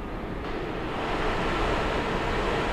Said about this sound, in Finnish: Prosessori ylikuumenee kovaa vauhtia, toisin sanoen tuulettimet huutavat täysillä, koska ne yrittävät jäähdyttää tuota, jaha.